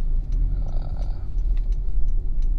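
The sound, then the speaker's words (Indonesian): A car engine hums with a steady, low rumble from inside the vehicle as the car makes a U-turn in a traffic jam, continuous throughout, with faint light ticks and clicks above it and no one speaking. “Oh, macet gini, gue harus putar balik saja.”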